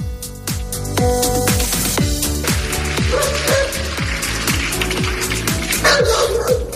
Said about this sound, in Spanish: Estos ladridos son los ladridos que se han escuchado hoy en el Parlamento Europeo. No es una metáfora lo de los ladridos, es que un perro ha estado durante la sesión del Parlamento Europeo ladrando. Parece que era un perro guía que se había perdido